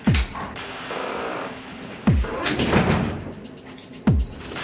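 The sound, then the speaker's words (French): A heavy security door of a badge-access security airlock in a secured data centre works through its cycle: three evenly spaced, solid clunks of a lock or latch, each followed by a steady mechanical whir, with no talking. “Et voilà la deuxième porte.”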